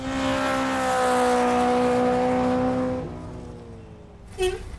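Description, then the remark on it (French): A car engine roars at full throttle during a police chase, a steady strained drone at sustained high revs for about three seconds, then the pitch drops as it eases off, ending with a brief sharp burst. “Ah, monsieur le facteur, écoutez, je n'ai pas le temps de vous parler, je suis en poursuite policière avec la pédale dans le tapis.”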